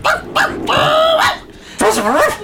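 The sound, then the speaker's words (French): A person's voice mimics a dog, giving a few short bark-like yelps followed by longer, whining howl-like sounds, loud, with no other talking. “c'est Pongo, le papa des 101 dalmatiens”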